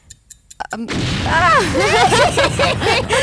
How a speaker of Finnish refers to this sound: Meidän Katri ei, Jarno pääsi vuorostansa eroon ja Katri ei ehtinyt mitään sanoa ennen kuin räjähdysääni tuli.